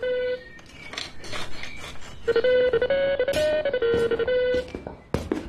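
A phone rings with a bright electronic ringtone melody of steady, beeping tones, loud, after a moment of faint clinking and rustling. It is the poet Heinz Strunk's telephone, ringing in the early morning while he is still in bed. No one speaks.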